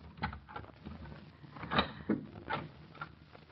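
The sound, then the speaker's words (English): A man taps lightly on a door a handful of times, spaced irregularly over a few seconds, soft and somewhat muffled against a faint background hiss, with no talking. “Now there are footsteps in the hall. Yeah. He's tapping at the door.”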